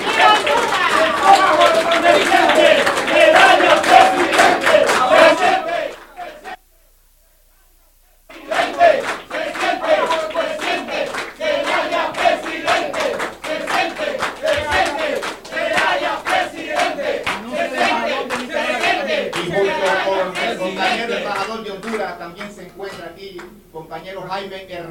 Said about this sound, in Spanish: con ese aplauso estamos expresando nuestra solidaridad con la democracia en Honduras.